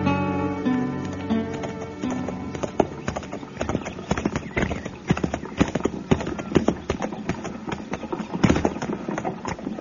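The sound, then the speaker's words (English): Horse hooves clip-clop in a steady, uneven rhythm of sharp knocks, fairly loud, with a faint voice or tonal sound near the start. “mow that horse yarn over so I can get mine in there. This hitch rack's pretty crowded”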